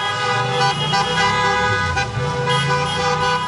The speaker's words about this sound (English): And some lacking a platform may shout or honk their horns. This is a weekly protest in the capital demanding the release of Ukrainian war prisoners from Russian jails.